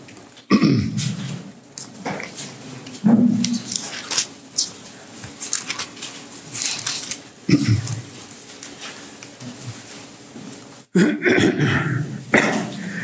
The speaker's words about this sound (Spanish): No quiero empezar a toser porque me pico.